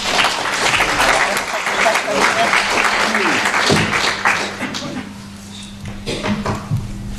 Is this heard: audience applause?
yes